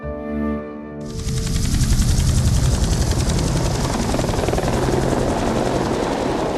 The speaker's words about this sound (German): Mit dem Hubschrauber.